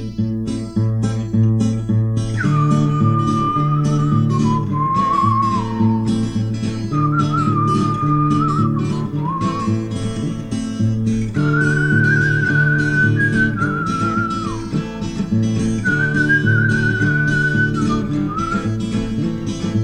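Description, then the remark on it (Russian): A breezy whistled melody floats over steady instrumental backing, in several sustained phrases that slide up and down between notes, clear and prominent without any voices. “В этой дороге мглистой трудно, а я смеюсь, или беспечным свистом перебиваю грусть, перебиваю грусть.”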